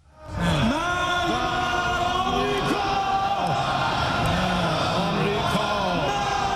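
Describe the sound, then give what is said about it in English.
A large group of Iranian lawmakers shouts the chant 'Death to America' in unison at Iran's parliament while burning a U.S. flag, loud and continuous, their voices echoing as a crowd. “Iranian lawmakers burned a U.S. flag at the nation's parliament, shouting, "Death to America."”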